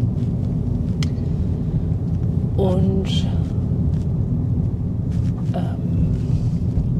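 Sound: car driving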